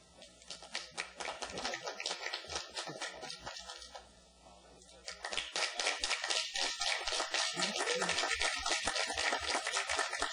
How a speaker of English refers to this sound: So I'm going to come up here, and I'm going to have the audience vote by applause.